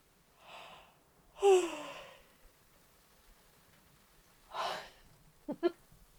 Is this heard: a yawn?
yes